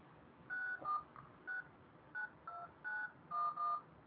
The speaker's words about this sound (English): There's dead air right now. We don't want dead air. There's dead air. Well, there's dialing. There's clicking and movement and anticipation.